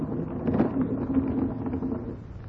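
A horse moves outside the door late at night, its hooves clopping unevenly over a steady rumbling, windy background with a low hum running underneath.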